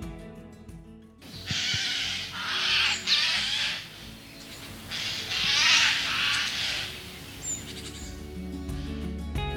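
A Eurasian jay gives loud, harsh, rasping screeches in a few drawn-out bursts, with soft music briefly at the start and again at the end.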